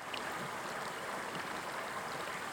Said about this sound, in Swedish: Nu har vi kommit till en helt annan del av den här vandringsleden och det är vid Vantalängan. Där ån slingrar sig framåt och det är små fall och vattnet ser alldeles klart ut här.